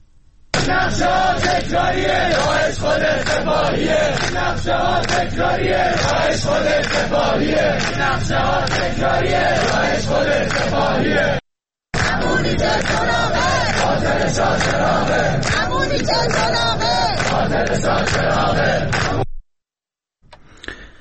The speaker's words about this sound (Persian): دانشجویان در چند شهر از جمله تهران فریاد می‌زدند که حکومت و سپاه را عامل حمله به شاه چراغ می‌دانند.